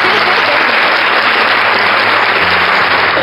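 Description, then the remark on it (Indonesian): A crowd claps steadily for a few seconds, a dense, loud wash of applause that holds at an even level throughout, with a faint low hum underneath. “Hey, tepuk tangannya dulu mana?”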